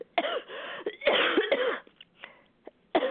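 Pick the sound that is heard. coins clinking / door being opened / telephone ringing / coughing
coughing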